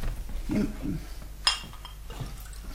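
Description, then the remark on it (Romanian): A single bright glass clink rings out midway, set among quiet tableware handling sounds as a glass of water is set down and handed to a young woman who asked for it, with a faint low murmur earlier. “Îmi dai un pahar cu apă? Da, imediat.”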